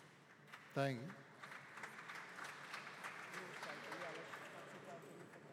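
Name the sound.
applause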